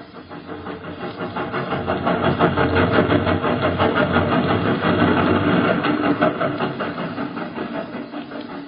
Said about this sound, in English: The train had come and gone, leaving its passenger behind in the little way station of Cheehaw, Alabama, when the carriage from the Institute dashed up late.